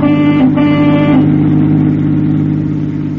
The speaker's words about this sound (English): Assistant District Attorney Patterson is sitting beside him on the back seat as the car rushes through the city streets.